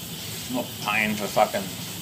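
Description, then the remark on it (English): A steady hiss of hot shower water running continuously, with brief muffled vocal sounds rising over the spray. “Get the hot water over me.”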